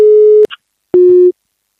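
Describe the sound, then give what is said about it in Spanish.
A telephone busy tone from a call that goes unanswered: two steady, mid-pitched beeps separated by a short gap, each lasting under half a second, loud and clean with no voices. “Le estamos llamando y no me lo coge.”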